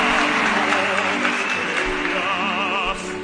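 Dense, steady applause fills all three seconds, loud and continuous, with wavering whistles or cheers rising above the clapping before it eases off slightly at the end.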